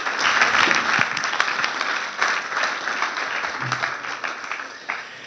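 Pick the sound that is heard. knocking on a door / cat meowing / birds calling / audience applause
audience applause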